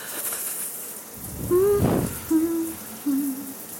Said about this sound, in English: I guess this is the start of my ritual. Full body shower.